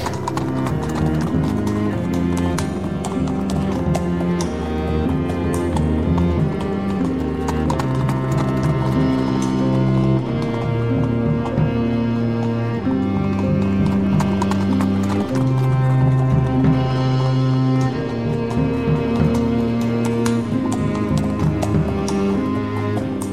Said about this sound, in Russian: Свистнул тогда Ту-Батор и выбежал к подножью горы из глубокого ущелья могучий саврасый конь. Оседлал Ту-Батор своего аргамака и поскакал за названными братьями.